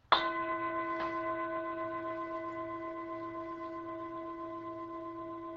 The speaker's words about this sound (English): And so with the sound of the bell, I'm going to invite us just to gently, gently come inward. Gently come inward.